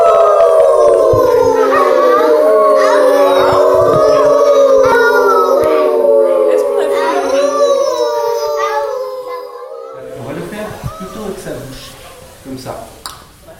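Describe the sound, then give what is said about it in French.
A group of children imitate wolves, howling together in long, overlapping wails that rise and fall, then trail off into scattered, quieter vocal noises and shuffling. “On fait le loup ?”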